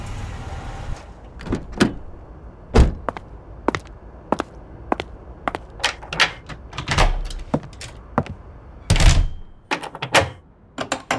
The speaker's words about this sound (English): I always lock the door. Even in the daytime.